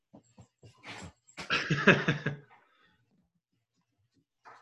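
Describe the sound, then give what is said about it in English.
A female pet dog, Sadie, lets out a short burst of anxious, whiny barks because she does not want to be alone, preceded by a few light clicks and followed by near silence. “Okay, as long as Sadie knows that she can actually come in here, I think she will stop barking. That's her, I don't want to be alone bark.”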